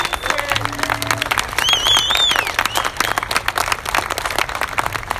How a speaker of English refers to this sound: And he deserves a huge round of applause for his efforts.